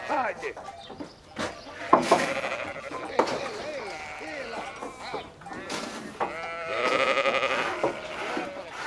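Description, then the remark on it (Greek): Several goats bleat over one another in a noisy chorus as they are brought in first for milking, their wavering cries overlapping almost continuously, with a louder burst of bleating toward the end. “Ξεκινάμε, πρώτα βάζουμε τα ζά, τις κατσίκες, τα λέμε ζά.”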